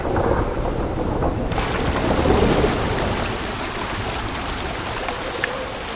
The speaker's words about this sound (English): There is a tropical downpour here almost every day of the year.